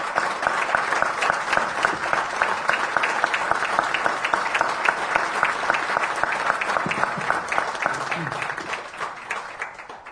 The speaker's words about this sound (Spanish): Por esto, por todo esto que hace el Punto Digital, les pido un aplauso para toda la gente que trabaja ahí.